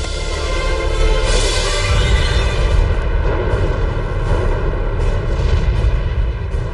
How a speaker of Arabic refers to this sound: هذا المشهد صورته كاميرا الإعلام الحربي في المقاومة، وقد تكرر عرضه في مناسبات عديدة. تظهر في المشهد عملية إطلاق غزيرة لصواريخ تبدو أنها من عيار 220 ميليمتر. بعد إطلاق كل صواريخه يغادر الرامي المكان.